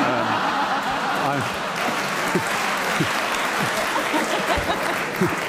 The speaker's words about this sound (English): I don't know why you clap.